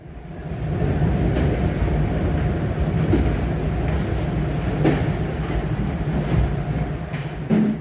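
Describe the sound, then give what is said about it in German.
Steady, loud industrial machinery noise from the DHL parcel centre in Neumünster while 600,000 parcels are processed: a continuous low rumble and whir with scattered clacks and knocks, like conveyors running, with no voices. “So klingt es nämlich, wenn 600.000 Pakete abgefertigt werden. Denn im Paketzentrum der DHL Neumünster ist aktuell ordentlich was los.”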